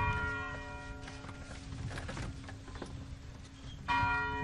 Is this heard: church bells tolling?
yes